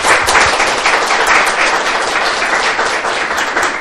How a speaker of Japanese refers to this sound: 本日は宮岡先生ありがとうございました。ご奉仕してくださった宮岡先生に感謝して拍手を送りたいと思います。